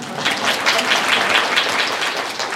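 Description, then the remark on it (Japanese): An audience at a talk on design applauds steadily, dense overlapping claps forming a bright, even wash of sound that holds at a constant loudness throughout, with no voices over it. “じゃあ、拍手しましょう。”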